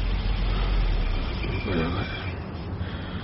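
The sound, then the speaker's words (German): A car ordered by the senior public prosecutor pulls up outside, its engine a steady, low rumble that holds for a few seconds and eases slightly toward the end, with a brief murmur of voice partway through. “Der vom Herrn Oberstaatsanwalt bestellte Wagen ist da.”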